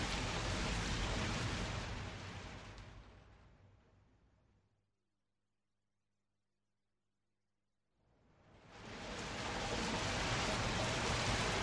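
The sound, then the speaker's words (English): Steady, dense rain hisses loudly, then fades away into near silence with only a faint low hum before swelling back to full strength. No voices. “Oh no, it's raining.”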